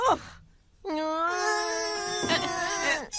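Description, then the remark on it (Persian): A person wails and sobs loudly, a long drawn-out crying moan after a brief catch of breath, strained and tearful, with the voice breaking near the end. “نه چیزی نیست، هیچی نشده گریه نکنین، هیچی نشده، چیزی نیست عزیزم، آروم باش.”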